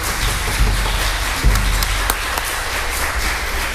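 An audience applauds steadily, a dense wash of many hands clapping at an even loudness throughout, with a few sharper individual claps standing out and no voices.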